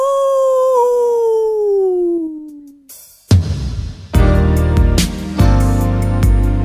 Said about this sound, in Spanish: El hombre lobo. ¡Aú!